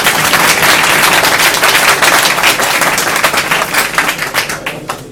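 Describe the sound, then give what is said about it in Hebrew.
A crowd breaks into loud, dense applause in honor of the rabbi, many hands clapping in a rapid crackling wash that holds steady, then thins out and fades toward the end. No one speaks. “תחיות כפיים לכבוד הרב.”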